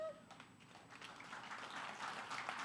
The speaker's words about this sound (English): I always wonder if they're clapping just because 15 years are a long time, or if they're clapping for you for making it, or I don't know what they're clapping for.